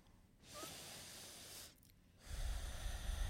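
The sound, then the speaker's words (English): Deep breathing during a guided meditation: a long, airy inhale, a short pause, then a fuller, heavier exhale with a rough, rushing texture. No one speaks. “Start to breathe more deeply and breathe out really deeply and strongly.”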